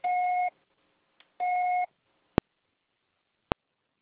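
Two steady electronic beeps, each about half a second long and identical in pitch, followed by two sharp clicks spaced about a second apart, marking the start of a voicemail recording. No voices are heard.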